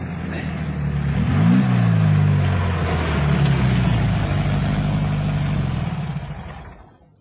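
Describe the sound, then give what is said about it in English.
A car engine rumbles, briefly revs, then drops back to a steady idle as the vehicle comes to a stop near some trees before the engine noise fades out at the end. “Stop the car near those trees ahead.”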